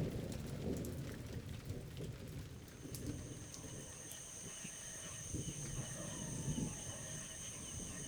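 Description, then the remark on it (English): Heavy rain pours steadily in a jungle, a dense wash of drops with low rumbling underneath and thin, high insect tones drifting in partway through. No one speaks. “It's raining harder.”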